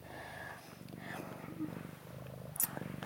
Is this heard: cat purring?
yes